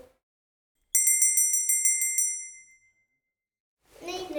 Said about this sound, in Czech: Od cukroví, od maminky a pak zazní cinky linky. Slyšíme hlas zvonečku, pospícháme k stromečku.